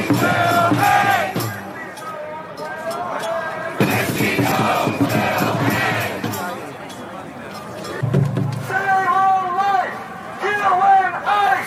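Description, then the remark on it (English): A large crowd of protesters in New York chants slogans in loud unison, including 'Save a life, kill ICE', many voices shouting together in rhythmic bursts with brief pauses, continuous throughout. “When you've got a crowd calling for the public execution of a federal official, there needs to be a response.”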